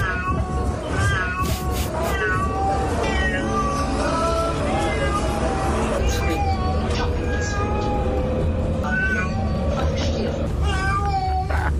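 A cat meows and cries over and over while being taken to the vet, drawn-out plaintive wails one after another, loud, with a steady hum of background noise underneath throughout.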